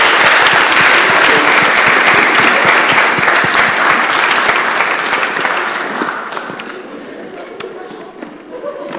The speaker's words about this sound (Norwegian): Da sier jeg tusen takk til dere som var skuespillere. Det var veldig bra, altså. Gi dem en skikkelig applaus.